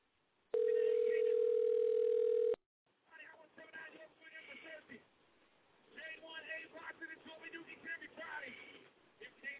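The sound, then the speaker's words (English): A loud, steady telephone dial tone on a call-in line sounds for about two seconds, then cuts off, followed by muffled voices talking over a phone line. “I think it's tired of the switchboard getting overloaded and can't nobody get through.”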